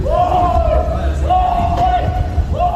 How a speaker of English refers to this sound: Others like them were captured on camera. This is a victim filmed with a phone, screaming as he tries to fight off abductors.